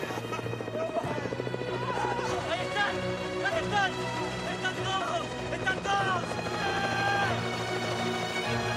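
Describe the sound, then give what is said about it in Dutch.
A steady, loud drone of approaching helicopters fills the scene, its low churning hum constant throughout while excited voices call out over it. “Wanneer plots ze eindelijk het geluid van de helikopters horen.”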